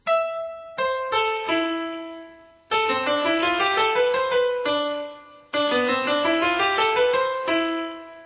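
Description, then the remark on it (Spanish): An opera melody played with its pitch contour flipped upside down, low notes becoming high and high notes low while keeping the intervals: a run of sustained, bright tonal notes and sliding phrases, loud, with no voices talking. “Voy a invertir ahora la melodía original de arriba abajo.”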